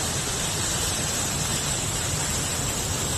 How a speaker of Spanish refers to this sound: Así suena el río Eresma, a los pies de la Sierra de Guadarrama, en el lado norte.